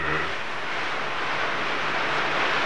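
Heavy rain that began suddenly, without warning, pours down in a dense, steady roar of hiss and patter that holds at a constant, loud level throughout, with no voices.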